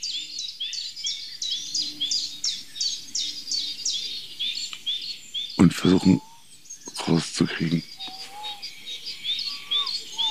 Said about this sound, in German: ist vielleicht auch möglich, dass ein Hybrid ist, eine Mischform von Gartenbaumläufer und Waldbaumläufer. Können die beiden sich überhaupt paaren? Gibt es da Mischsänger?